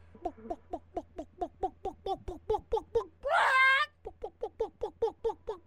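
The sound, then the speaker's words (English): A person imitates a chicken with a steady run of quick clucks, broken midway by one loud, drawn-out squawk, then more rhythmic clucking. “a chicken. Yep, very good.”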